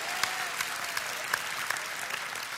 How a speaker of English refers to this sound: If you believe that, give the Lord a hand clap of praise.